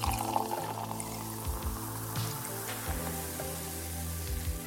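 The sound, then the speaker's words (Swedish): Champagne pours steadily into a glass, a continuous liquid gurgle with a fizzy hiss and a pitch that climbs as the glass fills. No one speaks. “På samma tid som du hällde upp ett glas champagne hade du redan åkt 40 kilometer framåt.”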